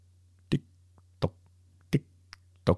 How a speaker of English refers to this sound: You hear the clock in the background, and you're just like, I'm out of here. Bye.